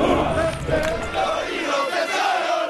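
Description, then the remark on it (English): A large group of soldiers shouting in unison during morning training at Fort Hood, Texas, a loud, sustained chorus of male voices that swells and dips in rough waves for a few seconds. “The sound of my city every morning from Fort Hood, Texas is the sound of soldiers training.”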